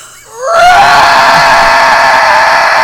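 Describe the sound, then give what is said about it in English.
A person lets out a loud, shrill screech that rises sharply in pitch and then holds as a sustained, raspy high cry, imitating a pterodactyl call. “You sound like a pterodactyl.”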